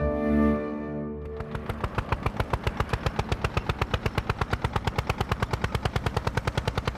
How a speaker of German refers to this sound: Mit dem Trecker.